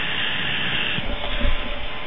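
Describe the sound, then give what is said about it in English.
A steady, even hiss of fan noise runs throughout, with a few soft low rumbles and bumps rising underneath in the second half. “Just a hissing noise. Yeah, well, that's part of the course. That's the fan today.”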